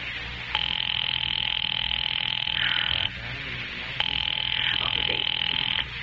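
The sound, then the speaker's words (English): A telephone rings in two long, steady bursts separated by a short pause, a buzzy electric tone, clear over a low background hum, as an operator puts a call through to the police department. “Ringing the police department.”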